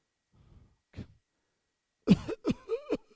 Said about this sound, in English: Sounds like Grandpa. No, sounds like I just had a cough.